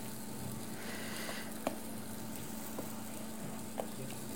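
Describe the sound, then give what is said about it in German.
Plantain slices sizzle steadily in a frying pan, a soft continuous crackle with a few sharper pops scattered through, fairly quiet, with no talking. “Oder ich glaube, er fängt schon an. Okay. Wir gucken. Zu brutzeln.”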